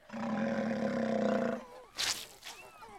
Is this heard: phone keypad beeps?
no